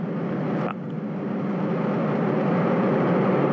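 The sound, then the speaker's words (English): A Soyuz rocket's engines ignite at launch on the launch pad and roar steadily, a dense, loud rumble filling the whole clip with no letup, and a faint brief whistle rises early on. “Less than 15 seconds, the engine's igniting.”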